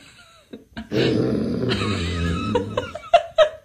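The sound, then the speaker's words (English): A person imitates a lion's roar with their own voice: a loud, rough, sustained growl lasting over a second, then trailing into a few short gruff bursts. “So they actually think it's a real lion sound and you're not doing it.”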